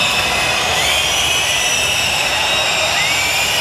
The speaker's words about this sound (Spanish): Estos son los silbidos con los que fue recibido el presidente del gobierno, Pedro Sánchez, a su llegada al desfile. Es un sonido ya habitual.